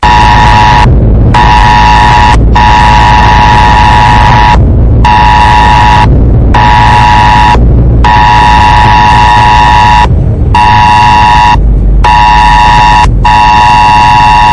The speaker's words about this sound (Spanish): co son que puderon escoitar non moitos veciños e veciñas da zona. A alarma do simulacro lanzada polo 112 esta mañá.